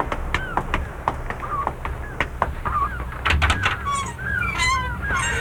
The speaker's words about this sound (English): Listen to those gulls. Means the weather's going to change.